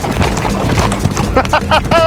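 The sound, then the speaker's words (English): Horse hooves clop in a steady, rolling rhythm while riding, the thuds loud and continuous, with a voice rising over them toward the end. “Oh, I need to get my feet in the stirrups here.”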